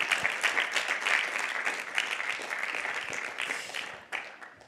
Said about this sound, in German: Genau, herzlich willkommen und einen grossen Applaus